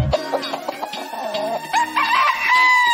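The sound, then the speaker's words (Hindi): A rooster crows loudly over a backing of steady music, its call rising and wavering before trailing off, with a few clucking notes mixed in. “Cake न मैं लाया पर लाया मुर्गा।”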